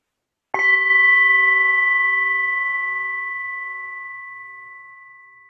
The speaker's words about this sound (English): I'm going to announce the start and end of the meditation with the sound of a soft bell.